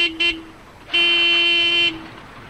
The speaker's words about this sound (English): This is a noisy place. Cars and trucks honk their horns under the viaduct